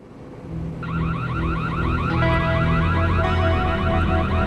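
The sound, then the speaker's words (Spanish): A burglar alarm at Lincoln Hill Estates in Paradise Valley, Arizona, heard by security guards at 12:45 a.m. on April 1, 1988, wails continuously with a rapid, repeating warbling tone. It is loud and steady after a brief quiet start, layered over a low droning hum with no voices. “los guardias de seguridad de Lincoln Hill Estates en Paradise Valley, Arizona, oyen una alarma de robo y llaman a la policía.”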